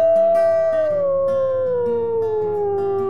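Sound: timber wolf howling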